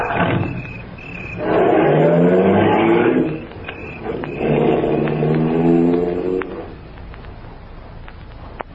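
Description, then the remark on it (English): A car engine roars loudly in two long revving surges, then drops back to a low idle rumble with a few faint clicks at the end. “Roar after me like we're going someplace.”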